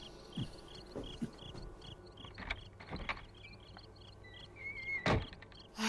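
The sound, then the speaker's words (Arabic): A house door is pushed shut to be locked, with a few scraping clicks of handling and a louder thud near the end, while crickets chirp steadily in the background. No one speaks. “لأغفل باب البيت.”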